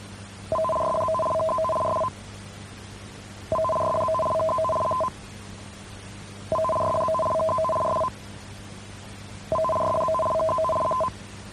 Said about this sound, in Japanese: ただいまのは緊急警報放送システムの試験信号でした。緊急警報信号を発信するのは、津波警報、知事や市町村長からの要請の場合です。